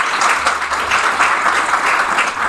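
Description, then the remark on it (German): A crowd claps steadily to answer yes to whether they could buy more regional food, with many overlapping hand claps forming a dense, even patter of applause that stays fairly loud throughout, with no voices standing out. “Jetzt stelle ich euch die Frage und jetzt müssen nur die klatschen, die die Antwort als Ja beantworten würden.”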